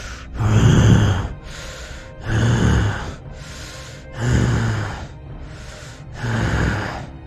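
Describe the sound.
Four heavy, rhythmic snorts from an unseen creature some distance ahead, each a loud rough burst of breath with a low rumbling edge, separated by quieter breathing. No one speaks.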